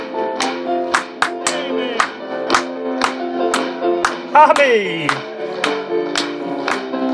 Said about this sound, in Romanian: Hai să aplaudăm încă o dată!